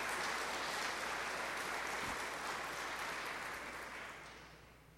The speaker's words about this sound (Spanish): ¿Cuántos pueden dar un aplauso al Señor diciendo que en Él está la victoria? Amén.